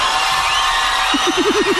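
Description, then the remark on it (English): A crowd of women in an arena screaming as a man takes off his shirt, a dense, steady, high-pitched roar that stays loud throughout, with a few rising and falling whoops breaking through near the end. “I'm just hearing the ladies screaming here”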